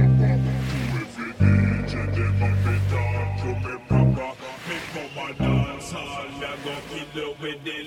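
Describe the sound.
A slowed, filtered a cappella vocal drifts in deep, drawn-out phrases over a steady wash of ocean surf, with brief drops in the voice around the first and fourth seconds.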